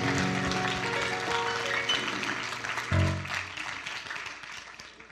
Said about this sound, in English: Come on, one more time. If you love the Lord, clap your hands.